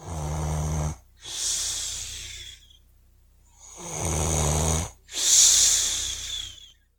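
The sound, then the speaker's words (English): Two full snoring cycles of Father Time taking a nap on New Year's Eve: a low, rattling buzz on each inhale, followed by a long, airy hiss as the breath goes out. The pattern repeats steadily, and no one speaks. “Father Time was taking one of his old people naps.”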